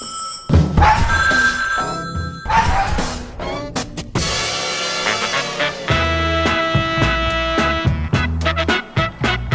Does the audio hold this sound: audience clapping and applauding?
no